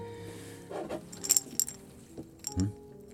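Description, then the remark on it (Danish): Four glass pill jars, holding pills for stomach ulcers, clink and knock together as they're handled, a few bright, sharp taps in quick succession against quiet rustling, with no voices. “Hvad pokker? Piller. Fire glas.”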